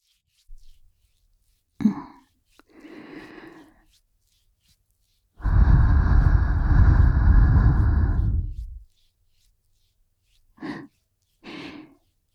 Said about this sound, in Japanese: 耳に吐息かけられるのも弱いんだ。